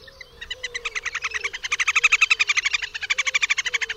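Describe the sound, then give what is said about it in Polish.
A little grebe's high, shrill trill: rapid squeaky syllables that speed up into a continuous vibrating whinny, loud and sustained for several seconds with no one talking. “Są to piskliwe, szybko następujące po sobie sylaby, przyspieszające i zmieniające się w wibrujący trel.”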